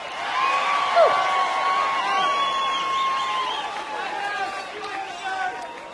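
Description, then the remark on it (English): A dancing crowd at a live concert cheers and shouts steadily for several seconds, with whistles and whoops rising over a dense wall of voices at an even, fairly loud level. “We got a dancing crowd out there tonight, huh?”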